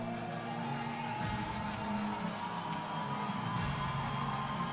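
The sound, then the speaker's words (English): A hockey arena crowd cheers in a steady, sustained roar, the dense wash of many voices staying fairly even throughout with no single speaker standing out, as the CC crowd waves rally towels during a second-period power play with DU leading 1-0. “CC crowd waking back up. Some rally towels going on.”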